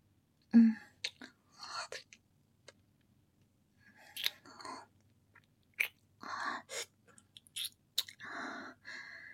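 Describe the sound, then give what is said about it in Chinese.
Wet mouth sounds mimicking biting and nibbling at the skin of a neck: irregular bursts of smacking, crunchy bites and soft breathy noises, fairly quiet, with short silences between clusters. “脖子好软，好香，咬一口，可以吗，主人？”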